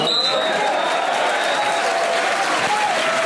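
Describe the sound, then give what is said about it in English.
A football crowd at AFC Wimbledon's non-league match against league leaders Burton Albion, with the scoreboard reading Wimbledon 2, Burton 0 at the end of the first half, roars and applauds in a dense, sustained wall of cheering that stays loud throughout, with a few whistles piercing through the noise. “Listen to the roar that's going to greet this.”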